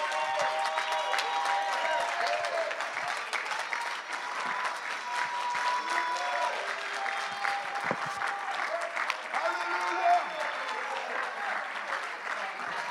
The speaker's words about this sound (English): But if you're determined that you're going to be in heaven, I want you to stand up and begin to clap and holler so they can hear you downtown Jessup.